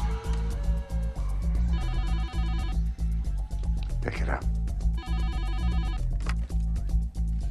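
A phone rings in two trilling bursts a few seconds apart, preceded by short dialing beeps, all over a steady low droning background.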